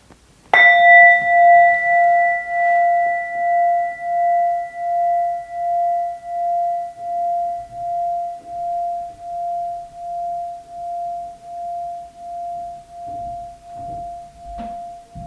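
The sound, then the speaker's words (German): A single meditation gong is struck once, ringing out with a bright metallic attack and a long, slowly pulsing hum that gradually fades over about fifteen seconds, with no voices. “Wir hören auf den Klang des Gongs, wie er verklingt.”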